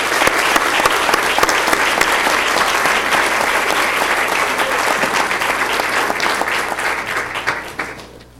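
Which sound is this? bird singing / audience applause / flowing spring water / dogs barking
audience applause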